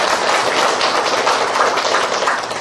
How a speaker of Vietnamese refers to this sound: Xin một tràng pháo tay chào đón tất cả.